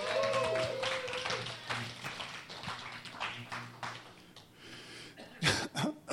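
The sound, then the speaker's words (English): An audience, asked to give a round of applause for a fellow speaker, claps in a dense, steady burst of applause that gradually thins out, followed by two or three loud, harsh coughs from the speaker near the end. “Everybody give … a round of applause.”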